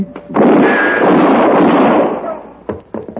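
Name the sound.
gunshot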